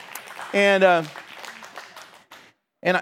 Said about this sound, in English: When it happens 30 years, you're going to have to clap a lot more than just that.